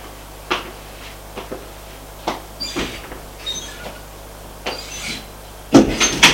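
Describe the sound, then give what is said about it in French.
A door is opened: a series of short clicks and knocks from the handle and latch, some scraping, then a louder rattling thud near the end, with a low hum underneath. “Ils arrivent vers une porte.”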